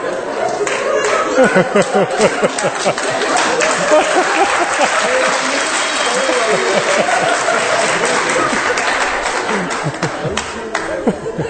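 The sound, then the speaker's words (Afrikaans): An audience claps steadily for several seconds for the 'devil' character, a dense wash of many hands with chuckles and crowd laughter mixed in, fairly loud throughout. “Hoor jy, okay, ouens, julle mag lag vir die duiwel, maar julle moenie vir hom hande klap nie, hoor.”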